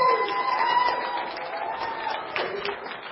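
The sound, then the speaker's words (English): A crowd breaks into a round of applause for the worship team and everyone who helped coordinate the day: dense steady clapping with a few whoops and cheers rising over it, holding strong throughout the short burst. “One more round of applause for the amazing worship team and everyone that helped coordinate today.”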